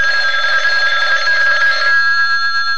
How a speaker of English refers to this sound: I was catching winks one afternoon when the phone...